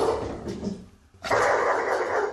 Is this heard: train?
no